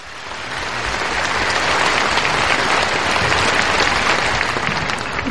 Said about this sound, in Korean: 여러분 다시 한번 큰 박수 부탁드립니다.